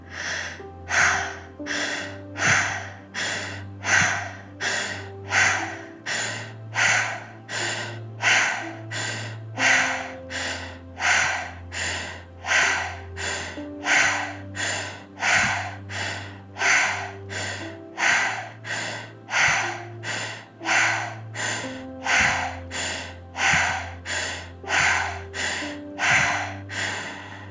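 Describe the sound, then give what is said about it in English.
Rapid, rhythmic pranayama breathing in and out through the mouth at the start of a meditation, about one breath per second, loud, with a low sustained musical drone underneath and no talking. “It's a rapid breathing of in and out. In through the mouth, out through the mouth.”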